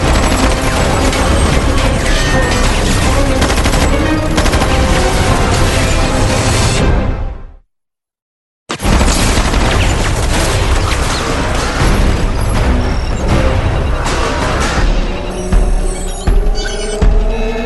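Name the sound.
gunfire volley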